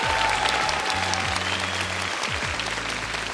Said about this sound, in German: Herzlichen Dank dafür, also Publikum an der Bühne, und der Applaus gilt auch meinem Gast heute Vormittag.